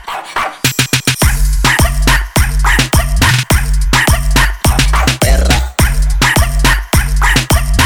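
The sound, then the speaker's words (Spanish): A female dog being walked in the neighbourhood barks loudly in a long, rapid series of sharp barks, roughly two per second, continuing without pause and with no voices. “Paseando la perra.”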